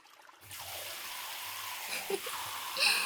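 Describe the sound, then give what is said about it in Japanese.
A shower starts after a brief quiet moment and sprays in a steady hissing rush, rinsing off soap foam with a few soft splashes and a brighter surge of water near the end. “シャワーで泡流すね。”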